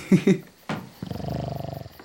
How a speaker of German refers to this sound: Hört ihr das Schnarchen? an. So laut schnarcht dein Onkel? Nein, das ist meine Tante.